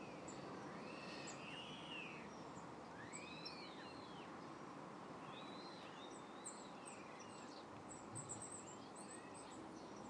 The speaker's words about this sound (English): Oh, we're getting a wee bit of birdsong now. Blue tit. Yeah, on cue, blue tit.